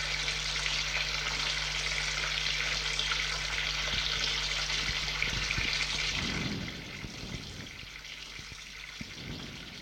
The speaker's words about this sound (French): En allant dans le couloir, il entend le bruit de la douche.